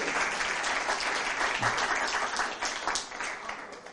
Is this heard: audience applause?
yes